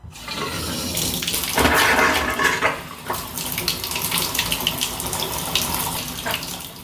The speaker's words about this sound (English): So, bubbles, air comes out, and then a bunch of brown water comes out of the faucet. And this happens almost every day.